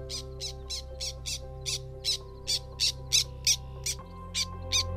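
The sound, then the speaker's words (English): Black terns call in a steady series of short, harsh, high-pitched notes, about a dozen in quick succession, over a constant low droning hum. “Do you hear that? It's the black terns.”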